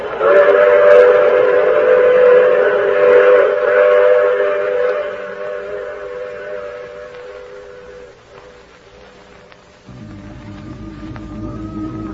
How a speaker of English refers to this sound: I take this same train every week at this same time.